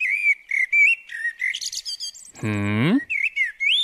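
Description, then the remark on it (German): Eurasian blackbirds sing in a run of varied, fluty whistled phrases with short pauses, broken midway by a brief, harsher, buzzier note, with no voices present. “Weil selbst für Naturlegastheniker wie mich nicht so richtig schwer zu erkennen ist, dass das Amseln sind, die da so schön vor sich hin singen.”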